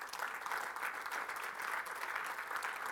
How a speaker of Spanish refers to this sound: Podemos darle un aplauso al Señor, hermanos.